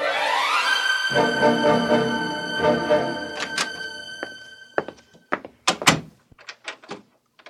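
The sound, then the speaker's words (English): A door creaks on its hinges and shuts with a heavy thud, followed by a quiet run of metallic clicks and rattles as the door is locked. “Is the door locked, Rhoda?”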